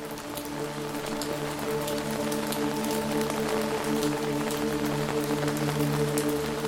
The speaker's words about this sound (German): Ein gleichmäßiger Regen fällt vom Himmel und in deiner rechten Hand bemerkst du das vertraute Gewicht eines geöffneten Regenschirms. Es umhüllt dich sofort das beruhigende Geräusch der Regentropfen,